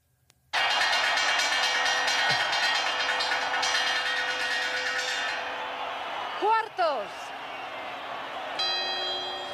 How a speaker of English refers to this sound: Wait. That's a chime. No, wait. Those are the quarters now. Ding dong. There are four of those. See as the clock gets to 12.